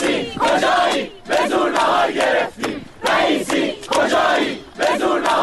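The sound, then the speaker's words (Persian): Students of the University of Guilan chant a new slogan in unison to announce they got their lunch, loud rhythmic bursts of shouting repeated in a steady cadence with brief pauses between phrases. “دیروزم که یه شعار اختصاصی دانشجوهای گیلان، دانشگاه گیلان دادن وقتی سر صرف دختر و پسر کنار هم نشستن و مسئولین دانشگاه بهشون غذا ندادن و همون دانشجوها چند ساعت بعد که نهارشون رو گرفتن با یه شعار جدید گرفتن نهار رو اعلام کردن.”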